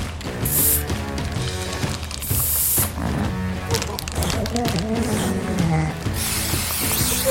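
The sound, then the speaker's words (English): Three short, loud hissing bursts of an aerosol marker spray as a pup is marked with a blue and yellow mark during conservation work, standing out over a busy background of tonal bleating or music-like sounds. “Duncan quickly nips in and out to spray the babies”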